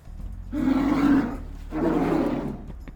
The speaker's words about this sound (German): Das klingt ein bisschen nach einem Raubtier, wobei ich ehrlicherweise sagen muss, ein Nashornbulle, der brüllt, klingt ähnlich. Okay, es ist ein Polarbär.